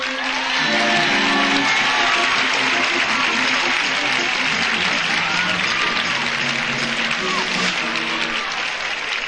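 Loud, sustained applause from a large audience fills the whole clip, a dense steady clatter of clapping with faint crowd voices and some tonal sounds underneath.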